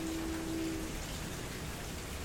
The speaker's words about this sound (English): Anyway, I'm sitting on my porch with all the city sounds and the rain, and maybe you'll hear my loud neighbors in a minute.